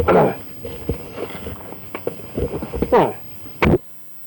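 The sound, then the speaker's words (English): A dog whimpers and whines, wanting to go out, in a few high, wavering bursts, with soft scuffling steps or claw taps between them and a brief louder burst near the end. “She wants to go out.”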